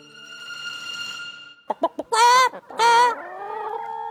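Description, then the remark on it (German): A chicken clucks: three quick, sharp clucks followed by two loud, drawn-out squawking calls, with no one speaking. “Einem Huhn?”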